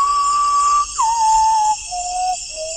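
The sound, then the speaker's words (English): An ornithologist whistles an imitation of a common potoo's song from within a potoo's territory during an evening birding session under a high jungle canopy in the Amazon: four long, mournful notes stepping downward in pitch, clear, over a steady high-pitched drone of night insects. “whistles a song from within a common potu's territory, it responds by repeating the cry, the avian equivalent of yelling, "No trespassing."”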